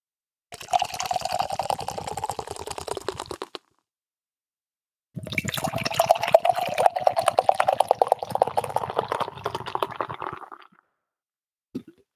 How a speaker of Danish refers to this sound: Det vælter jo op, når man hælder det i glasset. Ja, det må man sige.